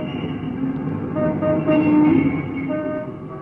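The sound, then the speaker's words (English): Steady rumble of street traffic with buses outside the Drury Lane theater in London at night, overlaid by sustained vehicle horns tooting, loudest in the middle and fading slightly toward the end, no voices. “What a blooming noise them buses makes outside”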